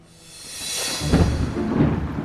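Steady rain hisses and swells, then a deep rumble of thunder rolls in and lingers beneath the downpour until the end. No one speaks.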